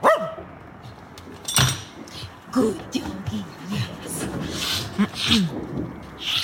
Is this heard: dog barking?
yes